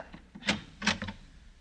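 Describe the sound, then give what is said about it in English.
A door swings closed and locks, with a couple of sharp wooden knocks and a latch click, fairly quiet, with no voices. “The door done closed. It's locked.”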